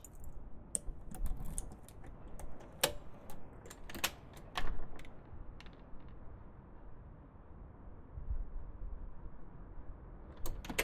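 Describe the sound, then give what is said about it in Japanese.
Irregular bursts of sharp metallic clicks and clinks as keys are handled and a door is unlocked, clustered in the first half, then fading to quiet before a final few clicks. No one speaks. “ちょっと失礼します。鍵、鍵。”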